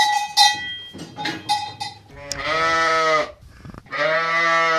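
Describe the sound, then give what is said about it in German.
Restless sheep bleat in an old stable in the village of Baltschieder on a warm spring day, two long wavering cries following a quick series of clanking cowbell tones, with no one talking. “Linker Hand aus der alten Stall hat man die Unruhe von den Schafen gehört.”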